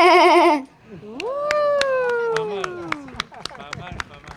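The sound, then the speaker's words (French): A child imitates a ewe bleating: a short quavering bleat, then a long, drawn-out 'baa' that slowly falls in pitch, fairly loud, with faint clicks behind. “Je m'appelle … et je vais vous faire la brebis. Bé.”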